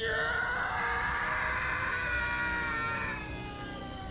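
A man screams in agony in a hospital as his eyes melt and flame erupts from his mouth: a loud, drawn-out anguished cry that holds steady for several seconds, then wavers and fades slightly toward the end, with no other voices.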